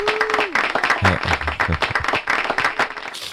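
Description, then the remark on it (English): A burst of studio audience applause sound effect, many hands clapping densely and steadily for a few seconds, with a brief tone at the start. “Brendan's sound effect. Well, you got your applause.”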